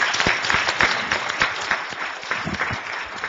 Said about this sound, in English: Let's give Kat a round of applause.